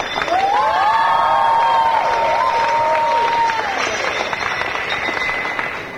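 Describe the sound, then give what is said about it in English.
At the end of a program in Brighton, a crowd applauds and cheers loudly and steadily for several seconds, with voices shouting and whooping over the dense clapping before it begins to taper off. “A big round of applause for the audience.”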